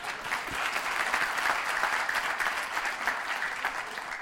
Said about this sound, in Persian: مرسی از تشویقتون.